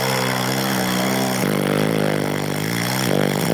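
man snoring

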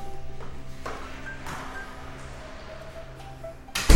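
door being closed

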